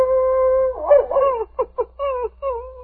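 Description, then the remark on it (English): A dog named Thunder howls outside a cabin in answer to wolves: a long, steady mid-pitched tone that wavers and rises, then breaks into several short, choppy yelps before a final drawn-out note. No one speaks. “Well, King, there goes Thunder again, answering the wolves.”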